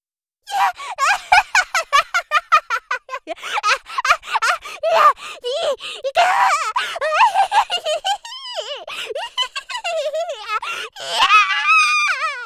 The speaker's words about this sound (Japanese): 悲鳴を上げてるうちはまだまだ。気絶するまでやるんだよ。